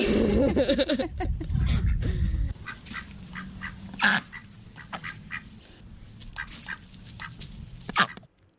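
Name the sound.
ducks quacking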